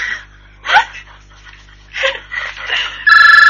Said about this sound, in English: Oh, the phone's ringing.